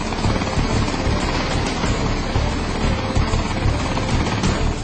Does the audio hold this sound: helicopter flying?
yes